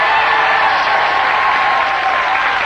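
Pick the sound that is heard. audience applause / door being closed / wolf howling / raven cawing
audience applause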